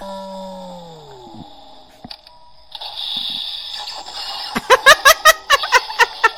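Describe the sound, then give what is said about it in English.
A tinny electronic Death Star sound effect played by a little plastic ball toy when its button is pressed: a falling synthetic tone, then a rising whirring hum, ending in a rapid run of about eight loud, rhythmic blasts. “a little plastic ball plays a Death Star sound when a button is pressed.”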